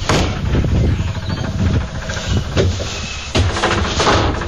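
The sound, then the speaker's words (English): The door of a big blue-grey plastic portable toilet standing on a front lawn is pulled open with a hollow clatter and creak. It is fairly loud against a steady low outdoor rumble, with a sharper knock near the end. “It's a big blue-grey plastic thing landed on my front lawn. Not looking forward to this. All right, opening up the door.”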